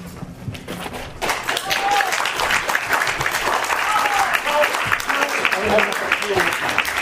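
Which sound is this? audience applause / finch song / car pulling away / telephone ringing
audience applause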